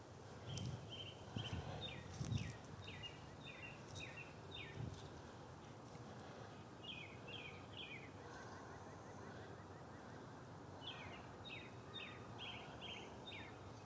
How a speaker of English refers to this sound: So I hope you enjoyed the bird calls here. Friday morning from Franklin, Mass.